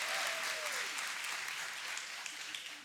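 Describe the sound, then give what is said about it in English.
A crowd applauds with steady, dense hand clapping that stays loud throughout, while a few voices shout and cheer above the clapping, giving God a hand clap and a shout during a sermon. “Come on, that's a good place to give God a big old hand clap and a shout right now.”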